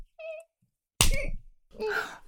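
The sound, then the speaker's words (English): A single sharp crack of a riding crop striking a person's buttocks, preceded by a brief high-pitched vocal whimper and followed by a breathy, voiced gasp. “You clenched on his dick when I slapped your ass, didn't you?”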